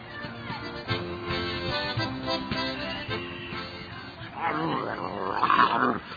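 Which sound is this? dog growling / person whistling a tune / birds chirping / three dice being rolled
dog growling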